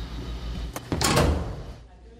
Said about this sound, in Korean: 한 어린이가 자판기 앞에 서 있습니다. 버튼을 누르자 쿵 하는 소리와 함께 작은 입구 앞으로 뭔가가 떨어지는데요.